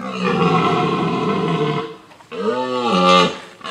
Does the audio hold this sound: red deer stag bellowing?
yes